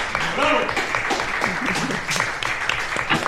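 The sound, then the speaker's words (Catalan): An audience at a Ràdio Farró street radio programme for World Radio Day claps steadily for a group of women, a dense wash of hand claps filling the whole stretch, with some voices and cheering mixed into the applause. “Un aplaudiment per elles, sisplau.”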